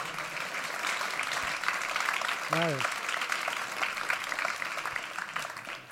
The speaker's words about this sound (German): Bitte begrüßt ihn doch noch mit einem großen, herzlichen Applaus.